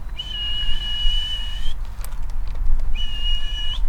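A person whistles two long, steady, high notes, the first held over a second and a half, the second shorter after a pause, outdoors over a low rumbling background.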